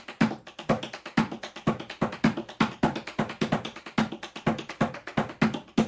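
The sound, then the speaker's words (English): Rapid tap dance steps rolling in a steady, driving rhythm, with crisp toe clicks and lighter heel drops cycling through a paddle-and-roll pattern, the heel used lightly as the low, bass tone; clear with no talking. “If I'm going to use a heel in the paddle and roll I just showed you, I can use it lightly.”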